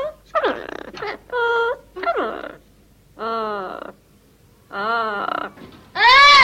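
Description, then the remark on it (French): A series of loud, wailing cries from a South American bird in short bursts, each a harmonic, rising-and-falling call that sounds almost like a crying child, repeated about seven times with brief pauses between. “Si vous le souhaitez, vous pouvez même télécharger, pour vous le passer en boucle, ce cri d'oiseau d'Amérique du Sud.”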